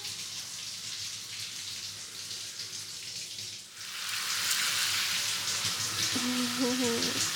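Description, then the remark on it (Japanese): Running water splashes steadily onto a person's hair, a soft hiss at first that swells into a fuller, louder rush halfway through as the rinse washes the foam away, continuous. “泡がどんどん流れて、見ていて気持ちがいいですね。水落としがないように水でも泡を落として、うんと、ぬるぬる落ちろ、ぬるぬる落ちろ。”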